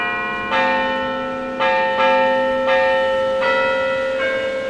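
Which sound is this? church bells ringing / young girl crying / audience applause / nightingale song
church bells ringing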